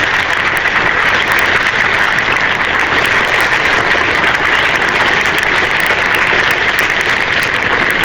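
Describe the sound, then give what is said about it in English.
Sustained crowd applause at a cricket match as a batting partnership reaches 400, a steady dense wash of clapping that stays loud and even for the whole stretch, with no voices standing out. “And the extra applause is because the partnership is now worth the monumental figure of 400.”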